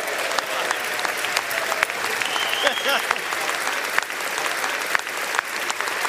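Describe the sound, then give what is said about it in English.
A large crowd of members of both political parties in the US Congress chamber gives a sustained, loud ovation welcoming a congressman back, dense clapping at a steady level for several seconds, with faint voices and cheers mixed into the applause. “Members of both political parties welcomed him back to Congress with a rousing ovation, and with good reason.”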